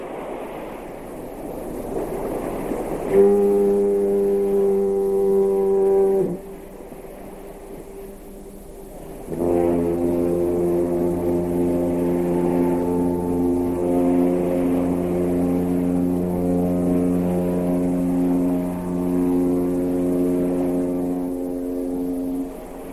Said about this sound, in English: Let's listen exactly. to the old Kewaunee, Wisconsin foghorn.